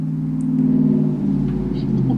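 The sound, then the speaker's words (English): A truck drives past outside a house, a steady low engine drone that swells slightly toward the end, continuous throughout. “The truck going by my house.”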